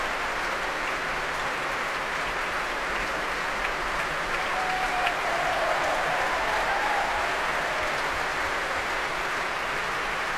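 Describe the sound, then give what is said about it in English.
Sustained applause from a large concert audience, a dense, steady wash of clapping that holds at an even, fairly loud level throughout, with no voices standing out, as soloists of the Royal Scottish National Orchestra, including the cor anglais player, receive the crowd's applause. “The core Anglais player Zoe Kitson being brought to her feet, many soloists now receiving the applause of the crowd here.”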